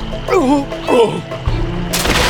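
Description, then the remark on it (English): A revolver gunshot, fired by Frank just above a muzzle flash at riders under trees along a creek bank, cracks out loudly near the end as a sharp, bright blast. Before it come two wavering voice-like cries and a dull low thump. “As the first man to unlimber his Colt triggered a wild shot toward the sound of Frank's voice, Frank aimed just above the muzzle flash and fired.”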